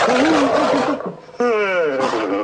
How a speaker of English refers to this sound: It's a lion.